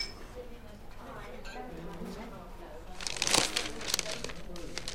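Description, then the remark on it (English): A newspaper rustles and crinkles for about two seconds as it is handed over, a burst of crisp papery crackling that follows a stretch of faint, indistinct background voices. “Here's your paper, then.”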